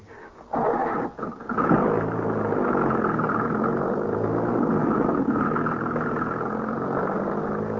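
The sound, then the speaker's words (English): A car engine starts up with a sputtering burst, then settles into a loud, steady rumbling drone as the vehicle pulls away, with no voices. “Mount Devil Wagon at once, son.”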